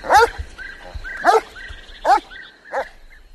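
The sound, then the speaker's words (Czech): A dog, the Koupek family's dog, barks four times in sharp, loud bursts spaced about a second apart, with brief high whines or yelps between the barks. “Ježišmarja, pojďme pryč, pane veliteli, jinak mě z toho koupkovic psa trefí šlak.”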